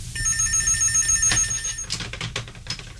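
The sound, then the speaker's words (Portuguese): A home telephone bell rings with a bright metallic trill, fairly loud, then cuts off partway through as other faint noises follow. The caller is a father phoning his daughter. “Terá que esperar até que ele volte ou que telefone. Ó, deve ser ele. Eu atendo”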